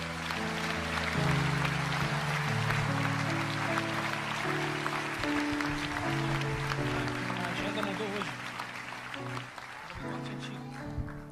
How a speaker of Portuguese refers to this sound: Dê um aplauso aí.